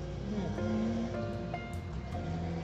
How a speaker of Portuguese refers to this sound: Aí ó, não é moto, mas é um carro barulhento, ser sem noção que tá passando aqui.